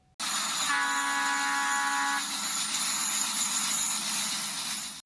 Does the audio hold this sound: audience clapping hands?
no